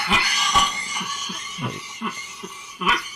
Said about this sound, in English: I missed this nice cough here, actually.